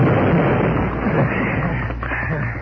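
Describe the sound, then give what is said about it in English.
A loud, sustained explosion at the Daily Leader newspaper building at 3 o'clock in the morning, in the still night air, wrecking most of the building, roars and rumbles without pause, a dense wall of crackling noise with deep low-end rumble that slowly eases off toward the end. No one speaks. “They escaped into the nearby woods as the explosion rent the still night air.”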